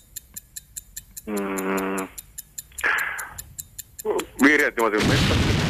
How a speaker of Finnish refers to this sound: Pommi tuli päälle!